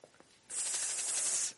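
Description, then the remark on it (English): A person hisses like a snake, one steady breathy hiss of about a second, sharp and bright, preceded by a couple of faint small sounds. No speech accompanies it. “I guess that's what snakes sound like.”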